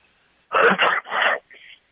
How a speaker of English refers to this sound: What was that? Is that a sneeze? Oh, he just wanted to sneeze on the air. That's some funny stuff. That was nice.